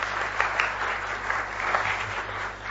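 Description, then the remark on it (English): An audience claps steadily, a dense, even wash of many hands with scattered sharper claps poking through, holding at a moderate level throughout with no voices. “We'd like you a clap as the next one comes up.”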